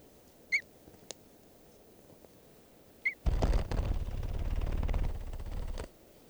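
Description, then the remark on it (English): Wild red crossbill calls, sounding like type 3, at 10:48 a.m.: two short, sharp, high chip notes a few seconds apart, followed by several seconds of loud, rough rumbling noise. No one speaks. “and I hear some crossbills, wild red crossbills.”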